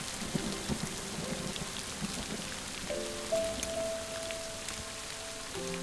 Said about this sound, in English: The friends walk in the rain.